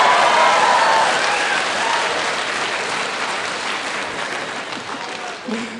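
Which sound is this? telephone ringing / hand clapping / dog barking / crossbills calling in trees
hand clapping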